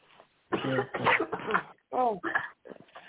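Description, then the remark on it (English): Five or six harsh coughs come in quick succession with brief gaps between them, followed by a few softer, throat-clearing hacks as the fit tapers off. “I do apologize for coughing in y'all ear.”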